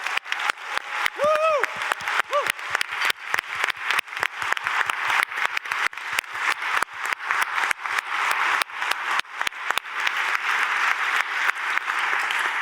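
Sustained audience applause at a conference, given for the conference office: a dense, steady patter of many hands clapping for over twelve seconds, with a brief whistle or cheer rising early on.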